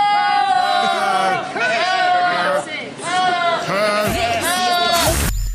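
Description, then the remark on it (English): A goat bleats loudly, several long wavering, almost human-sounding cries repeated back to back with brief gaps, ending in a burst of noisy rustle. “The goat that goes...”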